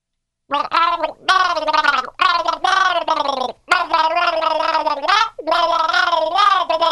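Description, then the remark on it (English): Someone gargles water while voicing a wavering melody, a bubbly, throaty tune carried in several long phrases separated by brief pauses. “take a sip and start the gargle.”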